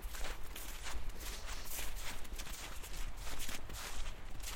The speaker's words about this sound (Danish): Vi parkerer bilen og træsker afsted i den snevåde skov.